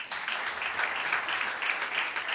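A crowd applauds steadily, with dense clapping sustained at a fairly even level throughout and no one speaking over it.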